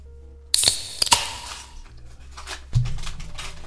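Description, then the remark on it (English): Paper being folded into a paper airplane: a burst of crisp crinkles and sharp creasing snaps, followed by softer rustling and a low thud as the paper is folded, with no talking. “I was gonna say he's gonna have a swan. He just does the craziest fucking paper airplane ever.”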